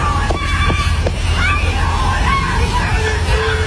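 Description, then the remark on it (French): Three sharp knocks on a door, then a long, wavering scream rises over a steady low rumble, with other shouting voices mixed in. “Sauf que il y a d'autres vidéos où on entend quelqu'un qui frappe à la porte, qui hurle et tout, et tu ouvres la porte, il y a personne.”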